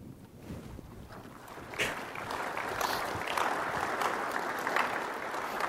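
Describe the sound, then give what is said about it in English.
Audience applause at a presentation on safety and sustainability: a dense crackle of many hands clapping that swells after a couple of seconds and then holds steady and fairly loud, with no voices over it. “The clapping already, though.”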